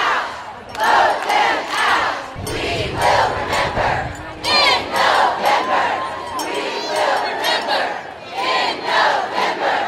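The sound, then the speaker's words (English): A loud, raucous crowd at a pension reform rally in Frankfort chants and shouts in unison, voices rising in rhythmic bursts with brief dips between them, filling the whole span with dense rally noise. “The crowd at this latest rally exceeded that of the previous rally, April 2nd, and the raucous crowd promised to remember this fight over pension reform in this year's and next year's elections.”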